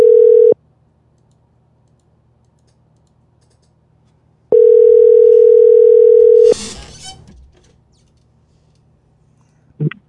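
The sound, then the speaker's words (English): A loud, steady telephone dial tone sounds in two separate bursts while a phone call is being placed, a brief one and a longer two-second one, followed by a short crackle of line noise, near silence and a final click. “we're getting Reverend Clenard on the phone right now”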